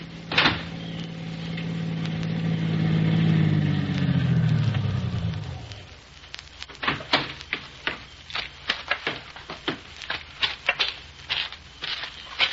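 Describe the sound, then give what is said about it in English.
A car engine rumbles and winds down as the car pulls up a driveway and slows to a stop, followed by a string of sharp crunching clicks and knocks, like tires on gravel settling. “That car down there at the foot of the hill just turned in your driveway.”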